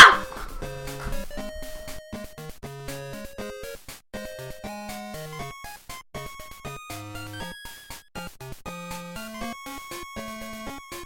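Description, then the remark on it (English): A chorus of dogs barking and yipping all at once, a dense, continuous racket of overlapping high-pitched barks that carries on steadily without pause, loud, with no talking. “What the heck was that? It was a dog pound”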